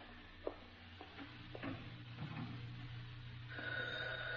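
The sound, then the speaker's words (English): A telephone starts ringing near the end, a steady electronic trill rising over background clatter of utensils and stirring. No one speaks. “Phone? Yeah, all right, we're getting it.”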